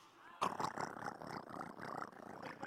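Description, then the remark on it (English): A voice imitates the fizzing crackle of Pop Rocks candy in the mouth with a rapid, rattling purr-like sound, fairly loud, running steadily for over two seconds after a brief quiet start. “It's like a purring cat.”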